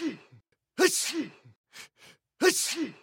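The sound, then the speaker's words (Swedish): A voice imitating a series of sneezes: short gasping wind-ups followed by two loud, forceful sneezes about a second and a half apart, clear with no talking. “Men så småningom veknade han och började nysa.”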